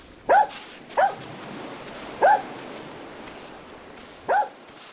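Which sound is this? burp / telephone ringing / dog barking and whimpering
dog barking and whimpering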